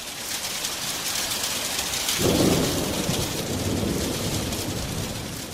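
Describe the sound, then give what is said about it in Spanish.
Heavy rain pours down steadily in a summer Monday thunderstorm over the Czech capital, with hurricane-force winds and hail. About two seconds in, a deep rumble of thunder rolls in and lingers beneath the downpour. No voices. “Vientos huracanados e intensa lluvia con granizo afectaron este lunes a la capital checa”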